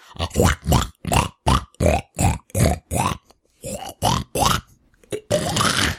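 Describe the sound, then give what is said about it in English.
A person imitates a pig with a rapid series of about a dozen loud grunting oinks, evenly paced with short gaps, ending in a longer drawn-out squeal-like grunt. “What animal do you want? I really like your pig.”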